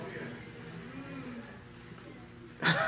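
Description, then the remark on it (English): Someone in a church audience gives a long, drawn-out yawn during a sermon, low and groaning, sliding downward in pitch for about two seconds amid background noise, then cut off by a short, sharp noise. “Somebody just yawned.”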